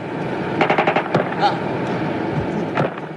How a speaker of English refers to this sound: Two of the guerrillas climbed from the first helicopter and walked over to inspect the jet. And as they walked back, the firing started.